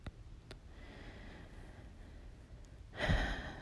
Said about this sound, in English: I'm listening to me breathing. So steady, just in and out.